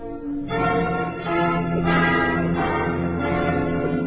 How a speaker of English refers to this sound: I don't like to sound off, but my brother is carrying out a great traditional pride in San Francisco. He's a trolley bell on a cable car. Market Street, everybody out and push.